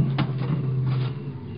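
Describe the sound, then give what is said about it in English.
A car door opens and shuts as someone gets into the back of the car, two short clunks about a second apart over a steady low engine-like hum, with no talking. “You get in the back of the car.”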